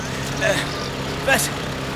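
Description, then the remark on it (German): The motor of a remote-controlled vehicle, switched on by remote control behind a hedge, drones steadily with a low hum throughout, with two short, higher-pitched surges rising above it partway through. “legte einen kleinen Schalter der Fernbedienung ein und hinter einer Hecke heulte ein Motor auf.”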